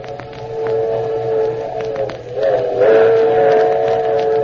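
A steady train rumble with faint rhythmic clacks, overlaid by a sustained, wavering whistle tone that swells louder partway through; no voices.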